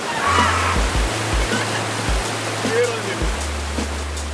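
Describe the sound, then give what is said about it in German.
Water roars steadily over a river weir with a boat chute as kayakers approach it, a dense continuous rushing, with a low droning hum running underneath throughout. “Wir nähern uns dem ersten Wehr mit einer Bootsrutsche.”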